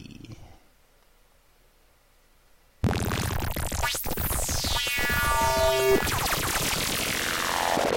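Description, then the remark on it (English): A slicing, dicing sound effect: after nearly three seconds of near silence, a loud, harsh buzzing bursts in and keeps going, with whooshing pitch sweeps and whirring tones layered through it. “of slices and dices you hear is a very common sound I hear buzzing in my brain when I'm under the influence of a good dose of LSD.”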